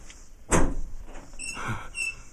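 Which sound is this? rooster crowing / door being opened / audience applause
door being opened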